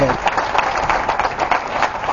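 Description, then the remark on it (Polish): A street crowd at a demonstration for peace and against terrorism applauds outdoors, with dense, steady clapping at an even loudness throughout and a murmur of voices mixed in. “Po tych oklaskach nastąpiła chwila ciszy.”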